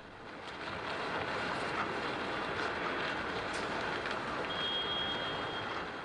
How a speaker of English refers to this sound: The 8.9 magnitude quake triggered a 30-foot tsunami that swept away everything in its path, and was quickly followed by a second wave. Hundreds of cars are washed away as the first wave slams into Miyako Port.